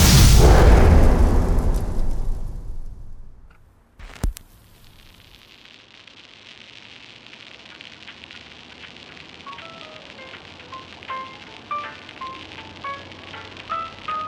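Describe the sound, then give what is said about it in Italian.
Street ambience of Queens, New York, in the 1930s: a loud rumbling roar fades out, a sharp crack sounds, then a steady low bustle settles in, dotted with short high chirps and whistles. “Quelli che sentite sono i suoni del Queens, New York, anni 30.”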